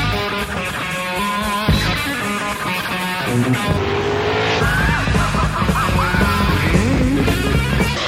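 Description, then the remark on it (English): A Lamborghini sports car engine roars loudly, its pitch climbing in rising sweeps as it accelerates on an open highway, with a hint of squealing tires over a constant dense rumble. “Just you, the miles and miles of open road, and your Lamborghini.”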